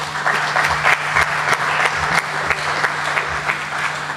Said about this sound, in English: Round of applause.